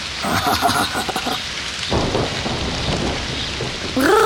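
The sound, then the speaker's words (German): Steady rain pours down in a constant, dense hiss, with a low rumble swelling partway through and a brief rising tone near the end. “Regen zum Geburtstag.”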